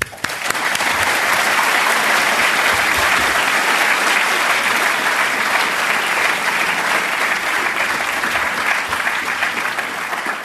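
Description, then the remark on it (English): Sustained audience applause welcoming the speaker at a recorded talk, a dense steady patter of many hands clapping at an even, loud level for about ten seconds with no speech over it. “So please join me in welcoming Tim with a warm applause.”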